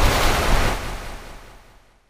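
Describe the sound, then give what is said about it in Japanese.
A roaring rush of churning seawater from the Maelstrom, a great whirlpool that suddenly formed in the sea during the escape from the Nautilus, loud at first and then steadily fading away over about two seconds, with no voices. “そしてその後、我々3人は戦闘の混乱と突如海に発生した大渦巻き、メイルストロームに紛れノーチラス号を脱出した。”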